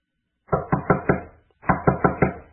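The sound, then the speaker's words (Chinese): Two quick sets of four firm knocks on a door, separated by a short pause, clear, with no voices, as someone knocks excitedly on the door. “兴奋地敲了敲门。”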